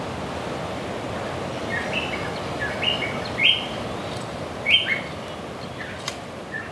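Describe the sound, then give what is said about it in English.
Wattled honeyeater calls ring out in a shady tropical forest in Vava'u, Tonga, as a few short, bright chirps and whistled phrases, scattered over a steady wash of surf-like background noise. “That was one wattled honeyeater and a shrill bill.”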